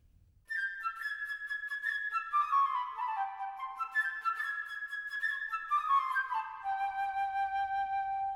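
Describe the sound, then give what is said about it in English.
A flute plays the bird's theme from Peter and the Wolf: a bright, lilting melody of quick, high notes that cascade downward in runs, repeating the phrase twice before settling on a sustained tone, with no voices. “The bird by the flute.”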